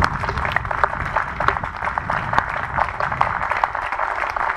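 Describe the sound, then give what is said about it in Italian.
Steady applause from a parish audience, a dense crackle of many hands clapping at an even level for several seconds, with faint murmuring voices underneath. “oggi gli faremo anche un applauso, anzi glielo facciamo subito un applauso.”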